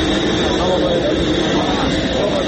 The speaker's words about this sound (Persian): بعد 45 دقیقه هواپیما در شهر سمرقند فرود آمد.